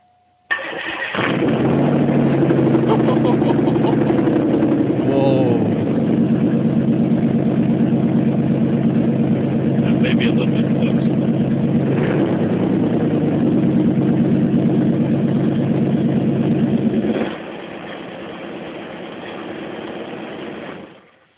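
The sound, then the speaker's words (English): A car engine with 33,000 miles, its newly installed DMH electric exhaust cutout opened, starts up and rumbles loudly, with a deep steady burble and a few revs, then drops to a quieter idle near the end. “Withstood my right foot for quite a while, and I've recently installed the DMH electric cutout.”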